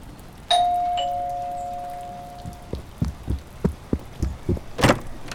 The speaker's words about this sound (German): Drück schon mal auf die Klingel.